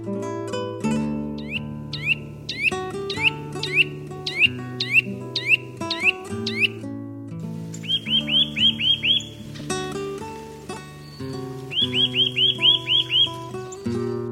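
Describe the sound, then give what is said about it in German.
A Eurasian nuthatch calls from a garden bed in quick bursts of sharp, rising whistled notes, several runs of rapid repeated chirps, clear, over a steady low musical background. “Das war der Kleiber.”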